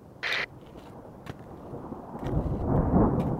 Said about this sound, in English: Oh, you hear that? Glad to be gone before the storm comes in.